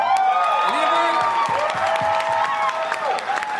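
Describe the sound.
A crowd claps and cheers loudly and steadily, with many overlapping excited voices and whoops rising and falling over the applause for the whole stretch.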